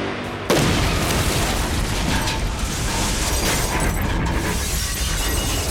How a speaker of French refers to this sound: L'impact de l'explosion sur le mur de la tour fut colossal. Tout ce qu'il y avait autour fut détruit.